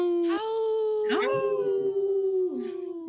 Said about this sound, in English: Howl! Right on. That was a good howl.